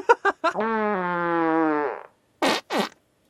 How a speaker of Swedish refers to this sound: Jag hade redan dragit igång dagens första hyss och hade lagt en pruttkudde på Jommis stol.